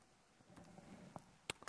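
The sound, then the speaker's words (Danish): A few soft, irregular key clicks from a computer keyboard as a document search is typed, quiet, with short pauses between presses over a faint background hum. “Skrive, hvad er det for et dokument, jeg gerne vil søge på, hvis jeg skal se mit keyboard her.”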